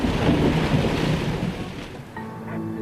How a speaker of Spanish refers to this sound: Al describirla, decían que los truenos eran tan frecuentes, se oían tan a menudo, que aunque hubiera habido disparos de escopeta, aunque hubiera habido alguien fuera cazando, no se habrían oído a causa del constante ruido.